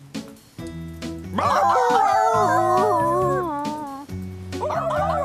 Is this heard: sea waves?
no